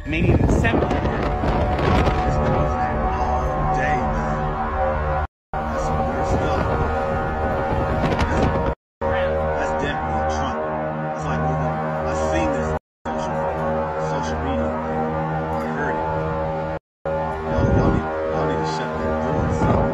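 While an approaching storm is being filmed and the winds pick up speed, a loud, eerie trumpet-like drone holds steady with layered harmonic tones over gusty wind rumble, broken into several long stretches by brief gaps of silence.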